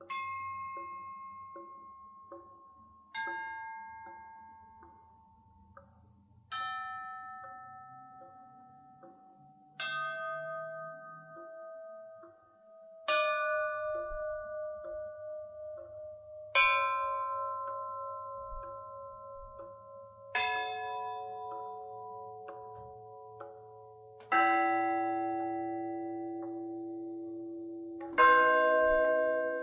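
A Tsaritsyn funeral toll on church bells, performed by Ilya Drozdikhin: single strikes roughly every three seconds, each bell deeper than the last, with long ringing decays over a low, steady hum.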